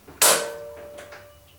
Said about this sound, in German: Vorsichtig griff Heike an die Türklinke und entriegelte mit der anderen Hand das Schloss.